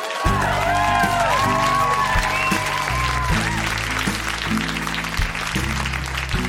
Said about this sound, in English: A round of applause for teachers, Montreal.